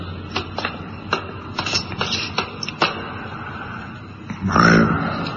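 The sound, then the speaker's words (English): Footsteps walk about 30 feet across a 60-foot-long conference hall, roughly eight soft, slightly uneven taps over a low hum, followed after a pause by a louder, longer scraping rustle. “I've walked about 30 feet.”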